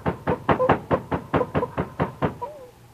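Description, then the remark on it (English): A rapid series of about ten firm knocks on a wooden cabin door, evenly spaced, followed by a faint rustle as the knocking stops. “Jim usually comes to the door right away.”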